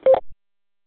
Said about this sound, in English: Sound like you got a Roger beep at the end of your tail. Yeah, I might. I don't think I changed anything. That's got the Roger beep like the Garmins have and the Motorola radios and stuff.